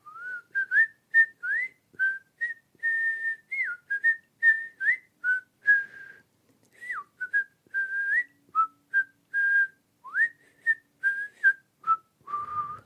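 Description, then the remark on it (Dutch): A grandmother whistles a lively melody of short, bouncy notes with quick upward slides, played clearly for about thirteen seconds, with no talking. “En dan fluit oma meteen dat vrolijke deuntje.”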